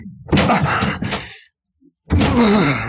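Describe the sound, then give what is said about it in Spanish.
A locked wooden door is forced open by Calimán's shoves in two loud, rough bursts of cracking and splintering wood separated by a short silence, with a strained, groaning voice mixed in. “Y después de dos o tres formidables empujones, la puerta cede con un chasquido de madera rota.”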